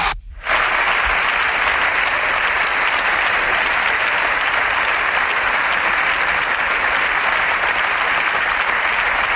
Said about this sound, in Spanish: Como es habitual, un largo aplauso por parte de la bancada del Partido Popular después de la intervención que hoy se ha podido terminar el líder de la oposición.